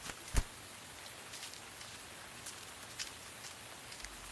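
Warm rain in Indonesia falls steadily as a soft, even hiss, with scattered drops tapping through it and one sharper tap near the start. No one speaks.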